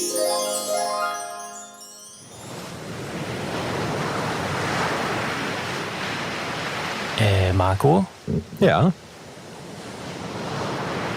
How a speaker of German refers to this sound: Was hört man da im Hintergrund? Das, mein lieber Lukas, ist das Meer.